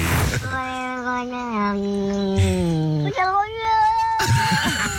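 Two cats trade long, drawn-out meows back and forth, one lower and wavering, the other higher and rising, sounding loud like a squabbling exchange.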